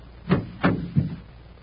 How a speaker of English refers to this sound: We'd better secure the door to hold the temperature down.